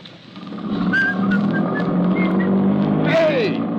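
A car engine hums steadily and fairly loudly for a few seconds as the car drives away, a droning motor sound with faint whistling tones over it and a short falling squeal near the end.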